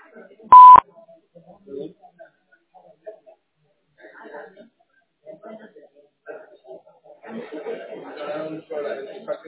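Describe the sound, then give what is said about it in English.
A single sharp, loud electronic voicemail beep sounds right at the start after the greeting, then fades into soft chuckling and murmurs before a voice starts talking more clearly near the end. “The person you're trying to reach isn't available right now, but you can leave a message after the beep.”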